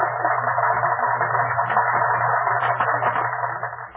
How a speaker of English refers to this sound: I have had a chance to record on this tape machine a crowd applauding. And will you kindly listen and see if this is what you heard?